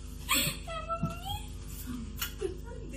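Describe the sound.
A woman's voice breaks into wavering, high-pitched sobbing cries and whimpers, close and emotional, rising and falling in short bursts over about three seconds.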